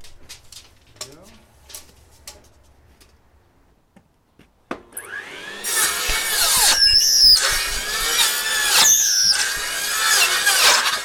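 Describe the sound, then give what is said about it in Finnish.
A few soft knocks and clicks, then a circular saw whines up loudly and bites into wood, a harsh, high, screeching roar that holds steady with brief dips until the end. “te olette nyt tekemässä te alatte sirkkelöidä ja mä katon vierestä.”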